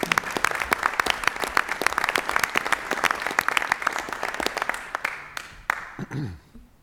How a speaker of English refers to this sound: Can we get a round of applause for our honorees?